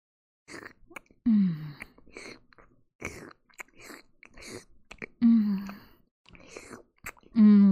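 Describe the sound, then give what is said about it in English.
Wet slurping and smacking mouth noises, slurping up semen, come in irregular bursts, broken up by a few short, breathy voiced moans. No words are spoken. “Nothing but an easy cleanup by slurping up our hubby's cock milk.”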